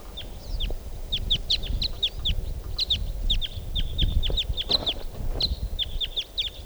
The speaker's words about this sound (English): And a type 4 bird has just joined with it.